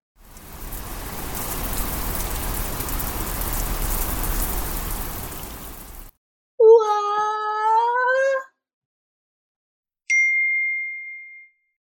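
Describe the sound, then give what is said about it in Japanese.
Heavy rain pours down in a dense, steady roar for several seconds, then stops abruptly. A cat's meow and a bright chime follow. “ザーザー！”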